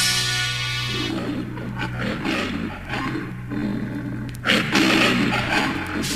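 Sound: lion roaring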